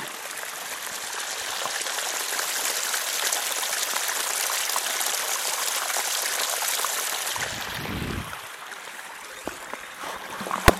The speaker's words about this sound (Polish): W każdym razie jest tutaj miejsce, gdzie z góry, z pól spływa woda.